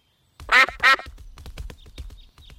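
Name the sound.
ducks quacking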